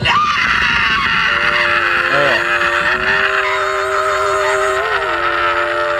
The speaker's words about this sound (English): Yeah, like I said, I'm not going to tell you where you hear this blood curdling, horrific scream.